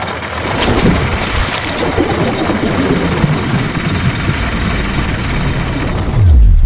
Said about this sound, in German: Setzt den Anker, ihr faulen Landratten! Jawohl, Captain. Anker wird zu Wasser gelassen!